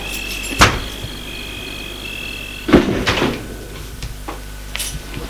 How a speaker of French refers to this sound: Elle a ouvert la porte de la maison et le fait entrer.